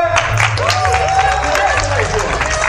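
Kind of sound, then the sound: crowd, audience applause and cheering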